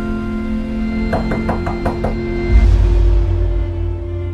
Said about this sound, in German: Eines Nachts klopft sein Nachbar Harry, der ihm zuvor schon aufgefallen ist, an seine Tür.